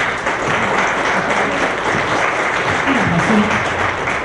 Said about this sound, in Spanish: Para tal efecto, le pido un aplauso para ella.